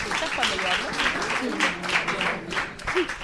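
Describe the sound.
An audience applauds a participant steadily for a few seconds, a dense wash of clapping at fairly even loudness, with faint voices and a brief cheer mixed in.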